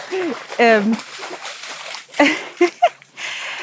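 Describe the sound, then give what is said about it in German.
A splash and sloshing of water as an animal jumps in, with a couple of short follow-up splashes, heard under a person talking. “Ich weiß nicht, ob du es platschen hörst. Milo ist gerade ins Wasser gesprungen.”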